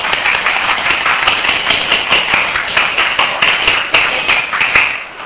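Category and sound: crowd, group clapping hands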